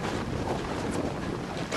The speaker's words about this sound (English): Sound artist Max Eastley spent his time listening. The sound of the waves. The sound of the wind.